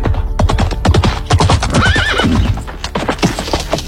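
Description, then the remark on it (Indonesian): A horse carrying a rider whinnies loudly, its wavering neigh rising over a steady, rhythmic clip-clop of hooves on a hard road as it appears at a bend in the road. “Setelah beberapa saat lamanya berjalan beriringan, di sebuah kelokan jalan muncul seorang penunggang kuda.”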